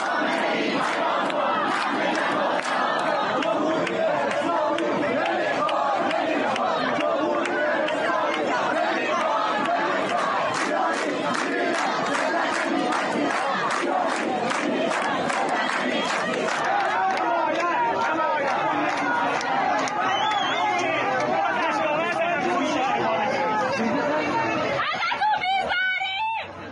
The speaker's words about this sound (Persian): معترضان حتی در کیش علیه علی خامنه ای نظام ولایت فقیه و حجاب اجباری شعار دادند و از مأموران نیروی انتظامی که به سوی آنها گاز اشکاور پرتاب می کردند درخواست همراهی و حمایت کردند. صدای این معترضان را بشنویم.